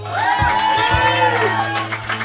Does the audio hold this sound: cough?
no